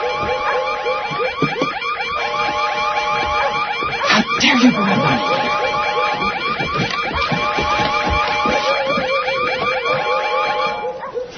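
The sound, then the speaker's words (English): A loud, continuous emergency alarm blares with steady, repeating harmonic tones throughout, while voices speak briefly underneath it. “that emergency alarm is abused. That alarm belongs to me, and I will use it by God any time I see fit.”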